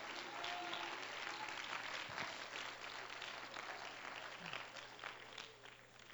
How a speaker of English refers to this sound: Let's clap our hands to him and give him praise.